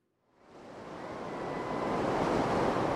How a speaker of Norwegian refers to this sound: Solen skinner. Vi kan høre sus fra bølger, folk som bader, surfer eller nyter en avslappende stund langs strandkanten. Vi befinner oss på en strand i Cape Town, en av hovedstadene i Sør-Afrika.